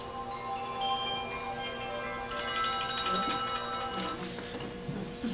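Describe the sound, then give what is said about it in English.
A chime rings with sustained, layered bell-like tones that hang in the air for several seconds, steady and moderately loud, with a slight swell of brighter overtones partway through and no talking. “I guess that chime means it's time to move on.”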